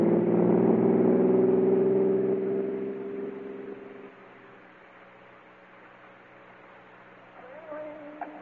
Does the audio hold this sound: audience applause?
no